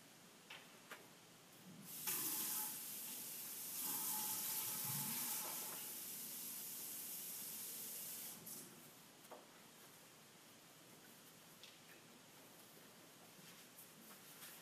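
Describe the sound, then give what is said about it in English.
Water runs from a tap for several seconds as someone fetches water, a steady broad hiss that swells in and then cuts off, followed by quieter background noise and a few faint clinks. No one speaks. “Let me get some water while you try to read the translation and see if it makes sense.”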